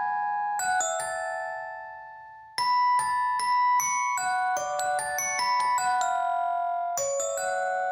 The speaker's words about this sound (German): Und beide haben dieses präsente Glockenspiel.